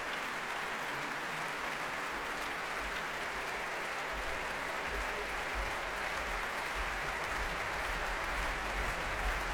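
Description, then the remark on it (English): A concert audience in the arena of the Royal Albert Hall applauds loudly and continuously, a dense wash of clapping, with heavy thudding foot-stomping pounding underneath throughout, not wanting to let conductor Valery Gergiev go. No one speaks. “You can hear the stomping.”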